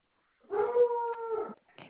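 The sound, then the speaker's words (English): A caller's dog, heard during a phone call, lets out one sustained, fairly loud howl lasting about a second, then gives a brief, softer whimper. No one speaks. “Oh, good grief, my dog.”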